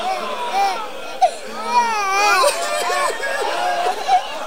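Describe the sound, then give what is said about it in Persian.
A small, frightened child in an audience cries and whimpers in a high, wavering voice amid a noisy crowd, with overlapping sobs and murmuring voices throughout. “شما دارید گریه میکنید، اینا میترسن گریه میکنن.”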